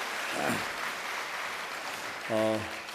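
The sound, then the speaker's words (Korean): Steady crowd applause in congratulation fills the whole stretch, a dense wash of clapping, with a couple of brief voiced calls rising above it near the start and again toward the end. “다시 한번 큰 박수로 축하드리겠습니다.”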